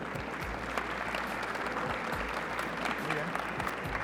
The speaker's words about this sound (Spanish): Recibámoslos con un fuerte aplauso.